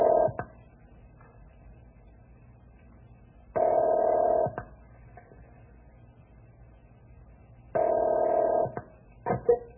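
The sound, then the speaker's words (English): A telephone call being placed to the Forest Creek ranger station: two long, buzzing ringback tones sound about four seconds apart over a low hum, with a few brief clicks and no voices. “I'll call the ranger station at Forest Creek and see if they pick this up.”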